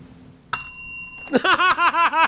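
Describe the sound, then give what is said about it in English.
A single bright bell ding, rung as a comedic sound effect, rings out clearly and hangs for a moment before fading, then bursts of laughter follow right after. “That does deserve a bell.”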